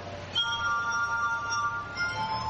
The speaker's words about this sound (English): But the camera's just focused in on his fingers going around the rims of these glasses. So he's playing that on glasses like you can do if you're actually smart and know how to play glasses and turn that into sound.